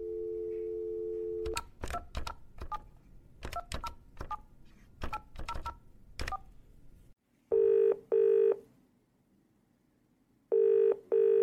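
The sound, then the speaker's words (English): A steady dial tone gives way to a quick run of about a dozen keypad beeps as a number is dialed to call for a table reservation, followed by two ringback tones with a pause between them. “Yes, so let's see how this next phone call of me trying to do my best to imitate his voice goes.”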